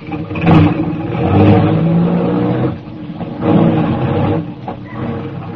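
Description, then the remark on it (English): A car engine revs loudly and steadily, rising in surges as the vehicle pulls away, with a faint rattle of clatter underneath and no voices. “We drove for about 20 minutes, and we stopped at a garage, a big garage, 4 stories high, with elevators for parking cars on different levels.”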